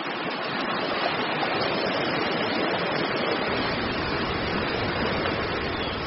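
A steady, dense rush of glacial meltwater tumbling downhill, continuous with no pauses or voices.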